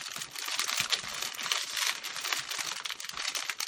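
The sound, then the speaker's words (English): Continuous crinkling and rustling of plastic packaging being worked open to get at a balaclava, a dense crackly texture with small bursts of louder crunches, no voices. “I want to open that up.”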